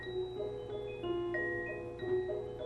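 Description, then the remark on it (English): A clock ticks steadily at a slow, even pace, its soft clicks set against sustained, ringing musical tones. “There's the clock. Tick-tock, tick-tock.”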